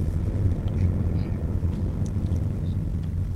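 The engine of a manual car drones steadily in second gear, a loud continuous low rumble with some wind-like noise on top, and no voices.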